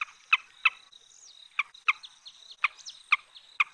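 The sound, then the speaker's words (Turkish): A recorded call of a colorful bird about 30 cm long: repeated sharp, bright notes in quick bursts, with thin whistled tones running between them, clear with no voices. “30 santim dediğin aslında o kadar da küçük bir kuş değil.”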